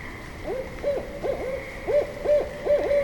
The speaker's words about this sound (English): Great. So that's the barred owl. We're going to hear another one in just a second, but they'll play with that who cooks for you, who cooks for you all. You'll hear all kinds of variations.